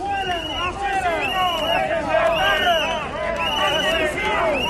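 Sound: crowd booing a minister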